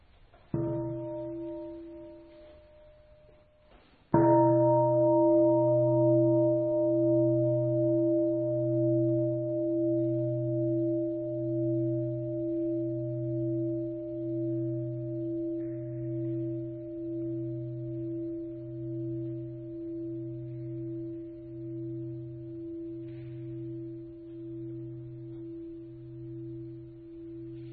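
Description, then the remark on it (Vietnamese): A Buddhist temple bell gets a light tap, then a full strike, its deep tone ringing out with a slow, pulsing waver that fades gradually over a long sustain. “Ba nghiệp lắng thanh tịnh, gọi lòng theo tiếng chuông.”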